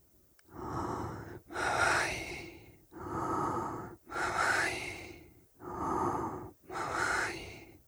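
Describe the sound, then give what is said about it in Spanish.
Deep, steady meditative breathing in and out, running through about three full unhurried cycles with each breath drawn and released audibly and no talking. “Yo lo he realizado ahora sí con el único objetivo de que percibáis cómo se acoplaría este mantra a la respiración.”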